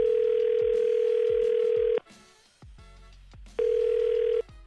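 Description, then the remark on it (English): An outgoing phone call's ringing tone from hosts at 99.9 Virgin Radio: a steady electronic tone holds for about two seconds, pauses, then sounds again, heard through the line with faint soft thumps underneath. “Let's make the phone call.”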